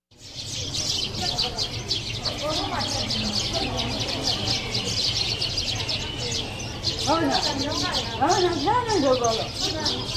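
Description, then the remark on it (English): Ambience at a large pagoda in Bagan, Myanmar, as the full moon festival approached: a steady wash of high chirping birds and insects fills the whole scene, while indistinct voices rise and fall beneath it in two murmuring stretches. “near a pagoda, near Bagan, in a large pagoda in Bagan, in Myanmar.”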